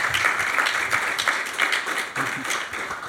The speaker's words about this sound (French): Donc que je vous invite à applaudir parce que c'est quand même tous les jours. Quoi.